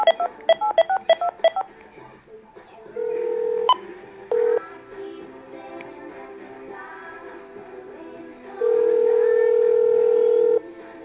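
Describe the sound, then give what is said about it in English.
A quick run of about eight crisp telephone keypad tones, evenly spaced, as someone dials a phone number, followed by a few longer steady electronic tones from the phone line, with faint background noise. “Ah, shucks. Wrong phone number.”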